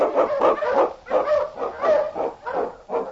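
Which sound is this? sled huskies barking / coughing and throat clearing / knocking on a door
sled huskies barking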